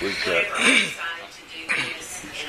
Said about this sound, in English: I'll just clear my throat.